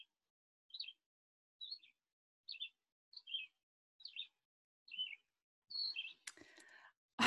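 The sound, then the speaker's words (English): A bird chirps in a steady series of short, bright two-note calls, about one every second, clear against silence, ending with a brief rustling clatter. “And your soul sings like that bird back.”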